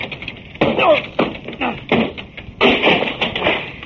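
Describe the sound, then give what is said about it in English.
A locked door is battered down: a series of heavy, irregular thuds against wood, building to a louder splintering crash near the end, with no speech over it. “I'll have to break it down.”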